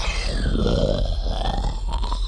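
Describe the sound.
A loud, gurgling noise made by an Aqualish alien creature, wet and shuddering, rumbling low and rough for a couple of seconds with a warbling, groan-like pitch and no speech.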